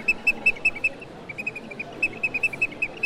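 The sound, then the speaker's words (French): A common redshank gives rapid bursts of clear, high piping whistles, note after note in an insistent rhythmic series, against a soft background hiss. “Le chevalier gambette.”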